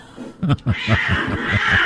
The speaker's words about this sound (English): Those cats are loud. Like, I'm sorry, I've heard them outside my apartment doing their business, and it sounds like a child screaming.